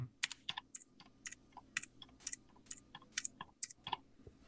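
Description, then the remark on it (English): Mechanical keyboard switches on two different keyboards clack out a steady run of sharp keystrokes, alternating between blue and gold switches, with no voices. “just bearing in mind that they're in two different keyboards. So I'll start with blue and I'll alternate blue, gold, blue, gold.”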